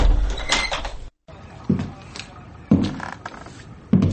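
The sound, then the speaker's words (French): A heavy door at the end of a corridor is shoved open with scraping, creaking friction, followed by a few dull wooden thuds as it swings and settles, moderately loud. “Arrivé au bout, il poussa une lourde porte.”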